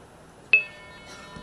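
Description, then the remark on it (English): A wink supervision signal on a phone trunk: one sharp click on the line with a brief metallic ring that fades into a faint, steady tone over low line hiss. No voices. “That was a Wink supervision.”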